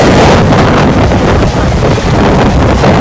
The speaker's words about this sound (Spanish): El mar completamente embravecido. Choca pues contra las vallas de seguridad.